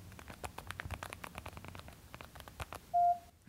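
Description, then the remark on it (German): Rapid, irregular clicking of a mobile phone keypad as a text message is typed, followed by a short, steady electronic beep near the end. No voices, fairly quiet. “Ich muss jetzt eh gerade meine SMS schreiben.”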